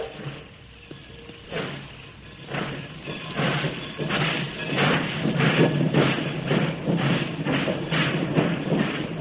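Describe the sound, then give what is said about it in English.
A railroad train with an ultra-modern coach, leaving Skagway for the Yukon, rolls along the tracks with a steady, rhythmic clatter of wheels over rail joints above a low continuous rumble, growing slightly louder and busier as it goes. No voices. “We go into the center of Skagway, climb aboard the ultra-modern railroad coach, and we're off for the Yukon.”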